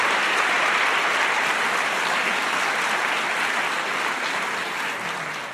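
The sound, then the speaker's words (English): Sustained audience applause for the four debaters after a debate on the motion "Death is not final", a dense wash of many hands clapping at once, loud and steady before easing slightly toward the end. “for all four of these debaters, were four people who disagreed vehemently on something very personal, meaningful, and metaphysical, and yet they did it in a respectful way, and I have to really give them a round of applause for the way they did that.”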